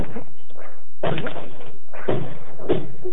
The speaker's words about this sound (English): Can you force the door? Yes, of course, but... Then please do. All right, here goes.